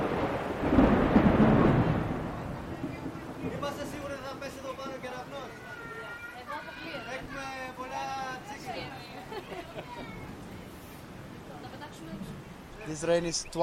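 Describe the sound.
Heavy rain from a cloudburst pours down steadily on an outdoor event with tents, opening with a loud, deep rumble like thunder, while several people talk and call out over the constant hiss of the downpour as some run about covering loudspeakers with tarps.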